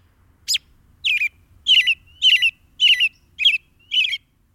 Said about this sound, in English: And robins can be remarkably long-winded. While their average song strings fewer than a dozen short phrases together and lasts a few seconds, robins sometimes sing for minutes without a pause.